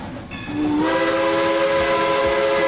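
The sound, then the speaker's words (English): A Cumbres and Toltec Scenic Railroad steam train, running 64 miles of track between Antonito, Colorado and Chama, New Mexico over the San Juan Mountains, blows its whistle loud and steady over a broad hiss of steam, swelling into a sustained, harmonic blast with rumbling rail noise underneath. “Climb aboard the Cumbres and Toltec Scenic Railroad.”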